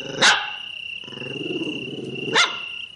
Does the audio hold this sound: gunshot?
no